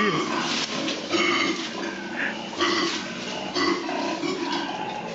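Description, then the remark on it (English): Two koalas bellowing as they fight: loud, rough snorting grunts and guttural roars that surge in repeated bursts, filling the whole stretch with harsh, pig-like noise. “It was two koalas fighting.”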